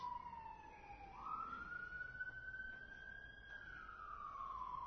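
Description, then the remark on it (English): An emergency vehicle siren wails as it passes by, its tone dipping and then rising to a long, steady high pitch, heard clearly over a low rumble of traffic with no one talking. “Now, if you have the ears to hear, the communication of creation is just as loud as that siren that is running past us right now.”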